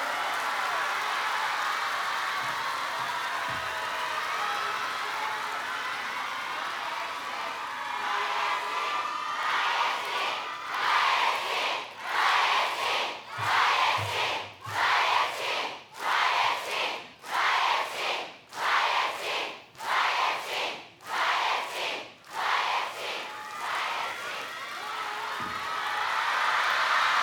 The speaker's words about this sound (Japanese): こうやって駆けつけてくれた A ちゃんに大きな拍手を。